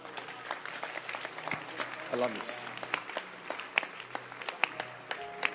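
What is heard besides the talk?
audience clapping hands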